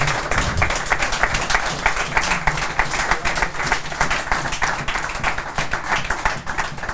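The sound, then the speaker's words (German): Sustained audience applause: many hands clapping in a dense, steady patter that stays loud and even for the whole stretch, with no voices standing out. “Ihr habt ja beide jüngst eure Verträge verlängert und ich glaube, dafür sollte jetzt einmal einen spontanen Applaus hier geben.”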